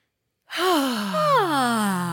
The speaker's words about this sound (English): Oh, I'm yawning today, but I don't know. Oh, man. I don't know what it is